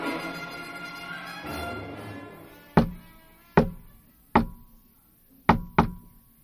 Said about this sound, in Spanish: Esa era la forma peculiar en que Eduardo tocaba la puerta, pero esta vez no venía solo.